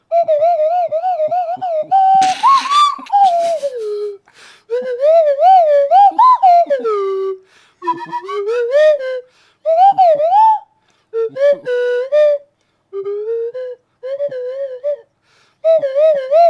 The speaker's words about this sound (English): Joe Cornish is going to render some indie classics on the slide whistle